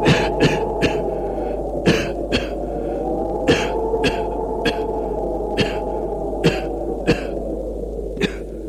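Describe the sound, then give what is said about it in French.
Repeated harsh coughing, a dozen or so sharp coughs in an irregular series, from people breathing unpleasant-smelling white smoke coming out of an opened tomb, over a steady low droning hum throughout. “Une fumée blanche sort du tombeau qui a une odeur désagréable. Ça les fait tousser.”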